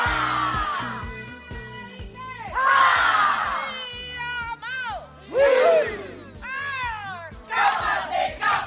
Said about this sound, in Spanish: Hasta, por ejemplo, también bailar una jaca, esa coreografía típica de la cultura maorí de Nueva Zelanda.